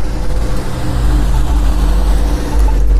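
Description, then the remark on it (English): Steady low rumble of road traffic going by, loud, with engine drone filling the background and a broad wash of tire noise throughout. “Lots of people in traffic out today.”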